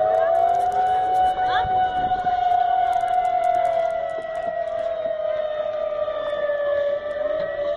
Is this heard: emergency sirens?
yes